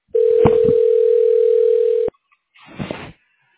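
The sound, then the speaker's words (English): A loud, steady telephone dial tone of an outgoing call to Sinus and Snoring MD holds one low-pitched note for about two seconds, then cuts off abruptly. A short, muffled burst of sound follows after a brief pause. “Calling Sinus and Snoring MD.”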